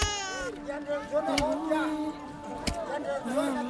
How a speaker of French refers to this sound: Elle pleure parce qu'elle a faim.